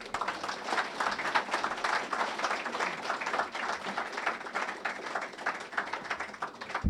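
A room full of people at a chicken fried steak dinner applauding a speaker after his talk, a dense wash of overlapping claps that holds at an even, moderately loud level throughout without a voice on top.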